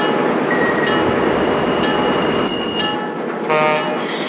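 A southbound local train rumbling steadily while its brakes or wheels squeal in thin, high whines, with a brief harsher screech near the end as it comes to a halt after smoke was reported coming from one of its last three cars.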